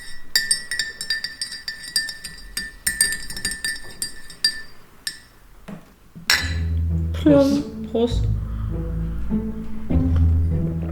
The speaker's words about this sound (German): Ich habe Kaffee gemacht. Warte, Stößchen. Ich muss das mal umrühren.